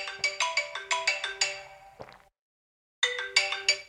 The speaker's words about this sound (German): Und zweitens war das mein Wecker. Weil nämlich die Börse geöffnet hat, ist jetzt kurz nach 8.